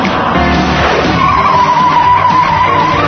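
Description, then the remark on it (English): A car skids loudly with a sustained, high tire squeal that holds steady for a couple of seconds over a rough, roaring engine and road noise. “You stop this car right now.”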